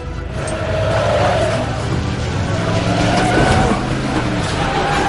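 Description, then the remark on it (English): A delivery truck loaded with packages drives on its route, its engine roaring loudly while tires squeal and skid in drawn-out bursts, a continuous rumbling, screeching drive lasting the whole stretch with no one talking. “But I gotta keep driving my route.”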